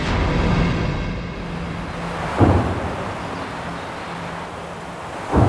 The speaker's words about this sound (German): Auch 80 Jahre danach hallen Schüsse durch den Wald bei Rocherath an der belgisch-deutschen Grenze. Soldaten der belgischen Armee trainieren auf dem nahegelegenen Truppenübungsplatz Elsenborn.